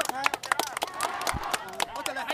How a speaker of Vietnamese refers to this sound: khiến cho đám đông quanh ông lên tiếng hoan hô